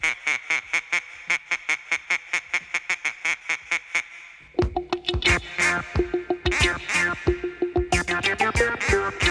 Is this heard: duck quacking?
yes